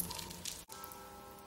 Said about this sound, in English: Too bad it's raining.